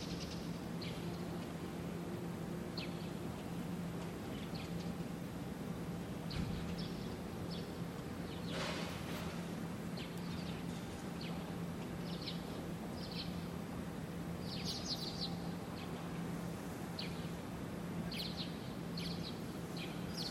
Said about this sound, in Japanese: それにしてもね、鳥がよく鳴いてますね。